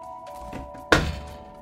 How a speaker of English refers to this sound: Cheese glares and slams his hand down on the table.